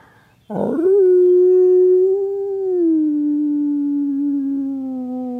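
A single long, steady wolf howl rises after a brief rough onset and holds for about five seconds, slowly sinking in pitch. It is loud, with no talking.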